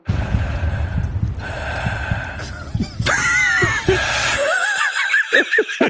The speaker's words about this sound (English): Ominous breathing.